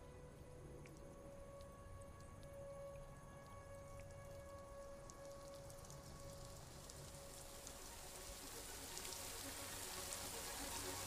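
Steady rain patters on a hard surface in a dense, continuous hiss, growing slightly heavier toward the end, with a faint steady hum running underneath and no one speaking.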